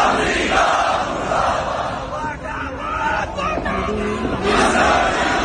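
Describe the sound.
Tens of thousands of protesters, mostly Shia, in India shout and chant together in a loud, dense roar, with rising and falling voices and rhythmic bursts of collective yelling, crying "death to the United States" and "death to Israel" while beating their chests in mourning.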